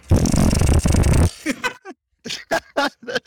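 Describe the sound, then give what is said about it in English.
A deck of playing cards with the jokers removed is riffle-shuffled in one loud, dense, buzzing flutter lasting just over a second, followed by a few short bursts of a person's voice. “All right, so I'm shuffling.”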